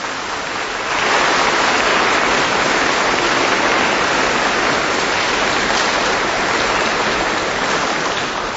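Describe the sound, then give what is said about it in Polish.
A large crowd in a minor basilica in Krosno bursts into applause after a brief quiet moment, a dense, steady wash of clapping that holds at full strength for several seconds without any voices. “Jeszcze raz wielkie oklaski, Bóg zapłać.”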